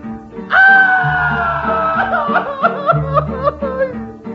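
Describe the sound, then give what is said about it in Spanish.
A loud, festive Mexican grito rings out over band music: one long held shout that slowly falls in pitch, then breaks into a rapid, laughing, trilling yell. “traigo ganas de echar un grito. ¡Échalo, …!”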